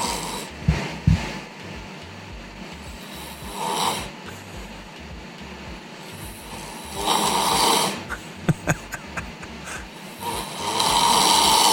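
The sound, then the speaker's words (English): A man asleep in a chair snores loudly and roughly in slow repeating cycles of raspy inhales and snorting breaths, with a few sharp snorts near the end as he wakes himself up, and no talking. “This is video that she captured of me snoring on the chair.”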